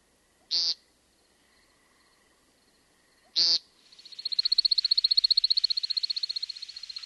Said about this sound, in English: Number five on my list of eight great bird songs is the American woodcock with its peent. This is our woodland snipe type of bird with a long bill that eats earthworms.